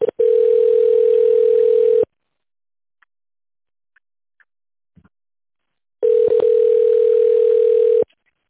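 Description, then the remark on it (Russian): A telephone ringback tone plays while a call connects to an operator: two long, steady electronic beeps, each about two seconds, separated by a four-second silence, clear on the line. “Соединяю с оператором.”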